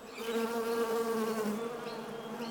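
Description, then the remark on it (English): A dense, steady drone of many honeybees buzzing together, continuous, with a layered hum that wavers slightly in pitch throughout and no voices present. “Oh, bees, of course. Honeybees, to be precise.”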